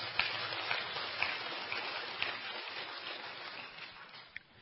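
A crowd claps steadily in a dense, crackling wash of applause that holds for several seconds before tapering off slightly at the end, with no voices.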